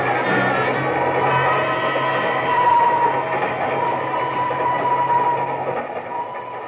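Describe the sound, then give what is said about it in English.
A train bound for Kugama rolls steadily along the rails, a loud, continuous rumble with a low droning hum and faint rattling, unbroken, with no voices. “I tell you, we can talk about it on the train to Kugama, huh?”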